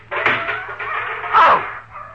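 A dog barks in drawn-out, whining yelps, a long cry followed by a louder one that slides downward in pitch, with no talking.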